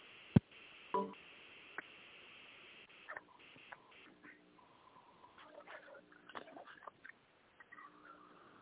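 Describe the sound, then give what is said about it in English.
Telephone dialing tones as someone dials to call a man one more time: a sharp click, then a quick, irregular run of short electronic beeps at varying pitches, thin and tinny in tone, with no talking. “Let me try to call him one more time.”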